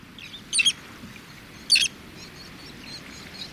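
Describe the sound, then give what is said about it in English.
A roseate tern, flying along the Connecticut shoreline of Long Island Sound, gives two short, high, raspy calls about a second apart, followed by a few fainter chirps, over a steady low rumble of wind or surf. “A roseate tern calls softly as it flies along the Connecticut shoreline of Long Island Sound.”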